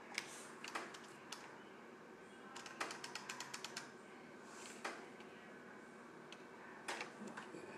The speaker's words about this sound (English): Excuse the noise, that's my air conditioner dripping after I just shut it off.